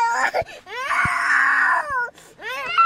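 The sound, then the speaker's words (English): An upset toddler cries loudly and insistently, one long wailing sob held for about a second followed by shorter rising whimpering cries, with brief gasps between. “Anyone who's ever been with a toddler can tell you. If they're upset about something, they will let you know.”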